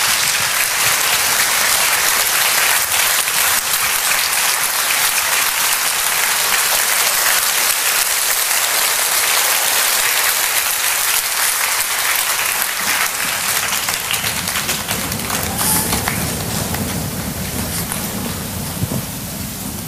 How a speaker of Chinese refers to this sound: 有请以热烈的掌声欢迎显扬法师。